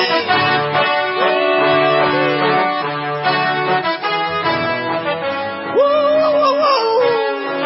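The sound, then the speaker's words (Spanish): A dog howls in long, wavering tones that rise and fall, with a few yelping breaks, loud throughout with no talking. “Es un perro.”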